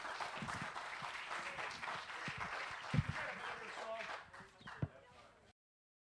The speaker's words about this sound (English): Let's give him a big round of applause, he and his group.